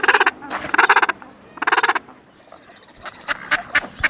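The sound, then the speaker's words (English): Gentoo penguin calls: three loud, harsh, pulsing brays, followed by a busier stretch of softer overlapping squawks from several birds, as in a crowded colony. “All penguins are clumsy on land, but these Gentoos are superlative swimmers, the fastest of any diving bird, reaching 22 miles an hour and diving to 600 feet.”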